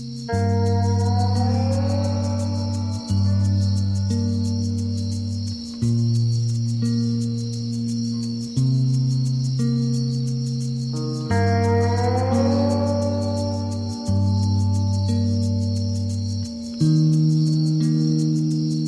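Steady, high cricket chirping runs continuously through slow instrumental music with long sustained chords and gliding tones, with no voices.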